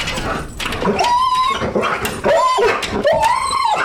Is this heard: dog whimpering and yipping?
yes